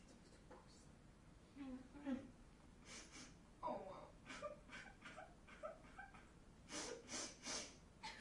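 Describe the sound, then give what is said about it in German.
A cat vocalizes in a string of short, irregular cries and yowls as it is being hurt, mixed with breathy snuffling and rustling, with a brief louder burst near the end. “Sie verletzt die Katze.”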